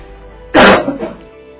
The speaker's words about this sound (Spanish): Bueno, y vamos a seguir, pues yo voy a tener que toser un poco porque estamos los tres con la garganta mal, sí. Y eso es terrible, no se puede toser en el micrófono, ¿no?